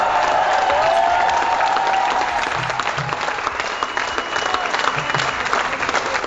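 A crowd at the Barcelona en Comú headquarters in Barcelona cheers and chants "sí se puede" over Ada Colau's mayoral election victory, with steady, loud applause and clapping, a few rhythmic shouted syllables rising above the dense noise and a brief whistle early on.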